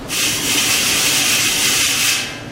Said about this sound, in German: jetzt das Regenprasseln aus dem Trichter.